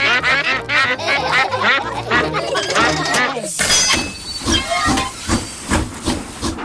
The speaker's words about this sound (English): Clickety-clack, clickety-clack, the train was on the track. Huff and puff, the train was on the track.